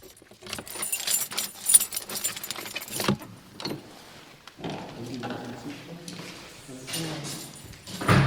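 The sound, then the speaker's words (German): Keys jingle and clink for a few seconds, followed by clicks and rattles of a lock being worked and the door of a storehouse building opening, with low voices murmuring toward the end. “Jetzt müssen wir mal reingehen in den Speicher. Sie haben Schlüssel mit?”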